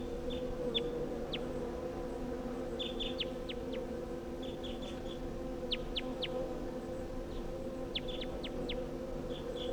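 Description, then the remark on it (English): Short, high-pitched calls of a wild bird come in quick clusters of two to four, repeating throughout over a steady low droning hum, with no voices. “So recording calls of that wild bird.”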